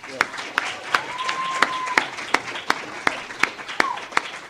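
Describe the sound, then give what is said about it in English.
An audience at an IABS event applauds the scholarship winners with sharp, distinct claps at a fairly steady pace over a soft wash of clapping, while a faint high whistle-like tone rises and fades partway through. “First off, let's give a round of applause for the scholarship winners that are here today.”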